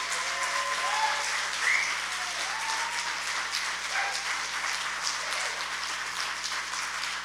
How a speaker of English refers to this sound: So I respect and honor this man. So can we just give him a hand clap?